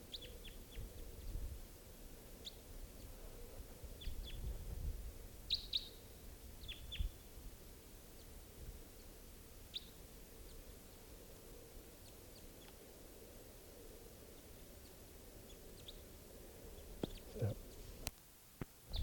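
wild birds chirping

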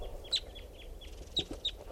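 male bird calling

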